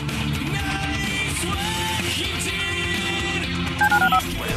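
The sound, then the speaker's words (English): A short burst of four quick telephone keypad beeps near the end, clear, sitting on top of a dense, steady musical backing. “Dial the phone.”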